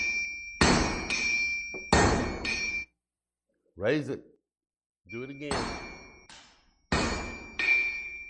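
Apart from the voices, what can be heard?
hammer striking an anvil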